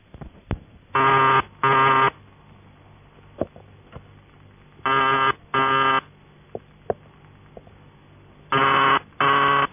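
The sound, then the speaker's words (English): A buzzy telephone ringing tone from a vibrating relay sounds in three double-ring bursts, each pair repeating after a pause, with a thin line-limited timbre and faint clicks in between. “When you're using vibrator ringing tones, on most exchanges, a buzzer relay tuned to around 133 Hz is used, and here are three examples: Post Office UAX12, a manual exchange, and another PAX.”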